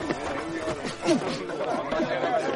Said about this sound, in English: What on earth's going on in here? Two men beating bedlam out of each other and a crowd cheering. It's a boxing booth.